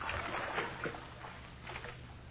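Soft water splashing in a bath, a continuous wash of sloshing with a few brighter splashes scattered throughout, fairly quiet, over a low steady hum and with no one speaking.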